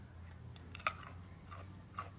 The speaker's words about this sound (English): Can you guys hear the crunch? Listen.